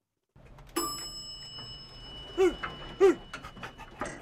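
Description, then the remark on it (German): A dog in an elevator pants and lets out two short, high whimpers about half a second apart, with a faint ringing tone lingering in the background and no one speaking. “Ach, das ist aber ein nettes Hundchen hier.”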